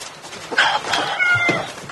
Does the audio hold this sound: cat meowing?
yes